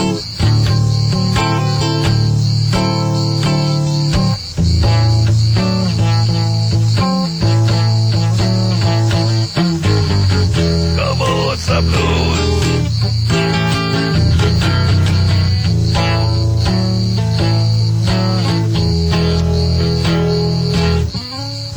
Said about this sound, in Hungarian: Ja, Istenem, azok a görög kabócák. Kedves népem, nyugodjatok meg egy kicsit, hallgassatok kabócát.